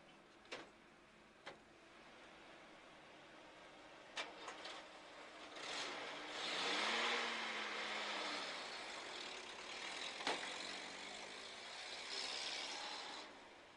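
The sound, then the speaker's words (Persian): A car drives along the Karaj highway as the driver tries out the car, with steady road and wind noise, its engine climbing and falling in pitch as it revs midway, with a few sharp clicks near the start. “آره، تو اتوبان کرج ماشین یه امتحان میکنم ببینم اونجا چجوری هست.”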